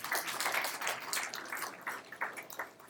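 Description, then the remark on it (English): A short stretch of steady clapping, like a small group applauding, dense and crackly with no voices over it. “How about an applause? We're listening.”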